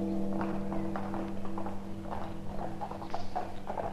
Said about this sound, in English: And that is the first of 56 minute bells, one for each year of the king's life.